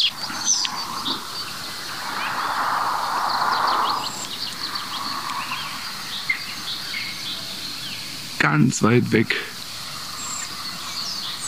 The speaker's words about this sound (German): Oh, leider fliegen die jetzt weg. Die waren nämlich genau vor mir gerade. Da hört ihr sie noch, dieses Tüt. Zwei balzende Schwarzspechte.